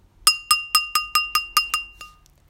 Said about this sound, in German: Wenn ich sage Schnee oder Schneeflocke, dann nehmen wir das Glas und schlagen vorsichtig mit dem Tischstift dran.